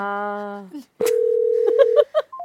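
A steady, single-pitched telephone ringing tone sounds clearly for about a second as a call is placed, with a voice humming a sustained note just before and speech breaking in near the end.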